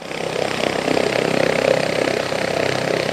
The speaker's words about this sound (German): Nach der Wartung wird der Helikopter im Außenbereich vorsichtig getestet, bevor er wieder den Rettungspiloten zum Einsatz übergeben wird.